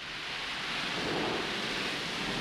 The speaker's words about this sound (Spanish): Durante 50 años no había llovido en aquella época del año en la zona. Aquel día cayó agua a mares, encharcando lo que el guión describía como un lago seco.